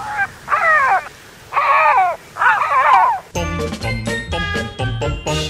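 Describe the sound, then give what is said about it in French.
A neighbour's parrot, just waking up, gives four short, harsh squawks in quick succession, loud, followed by a bright burst of chiming, jingling tones. “Ah, vous l'avez entendu avec nos amis les bêtes et un perroquet qui est mon voisin qui a tendance maintenant à se réveiller. Vous avez entendu son petit cri,”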